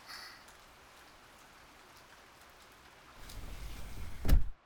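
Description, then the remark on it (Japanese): Steady rain falls in a continuous soft hiss, with no one talking. Near the end a low rumble swells and a single sharp knock sounds before it cuts off. “雨、全然止まないわね。”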